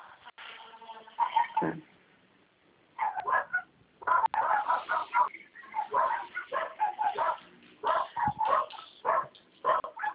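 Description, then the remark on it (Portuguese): Several dogs on the street behind a building bark in repeated, overlapping bursts, fairly loud but muffled and thin, as if coming through a phone line, with brief pauses between the rounds of barking. “Tem bastante cachorro aí, hein”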